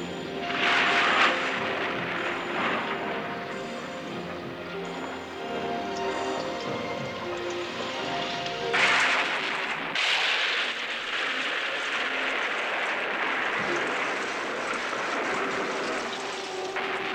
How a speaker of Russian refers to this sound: Прогремели раскаты грома. На носики маленьким путешественницам упали первые капельки дождя.